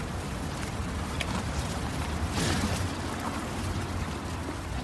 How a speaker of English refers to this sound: It's hard to believe there are 32 cows on this platform when they are so silent. They've got very good manners. Yeah. Yes. If you listen very carefully, you might just hear the brown and white cows munching on their hay.